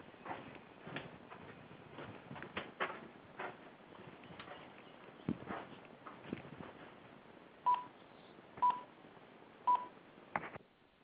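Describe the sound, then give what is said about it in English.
Three evenly spaced telephone keypad tones beep about a second apart, following a stretch of clicks and handling noises as a speakerphone is turned off and the phone activated, with a thin, band-limited phone-line quality and no talking. “I got to turn off the speakerphone, which is recording the backup, and then I can activate the phone.”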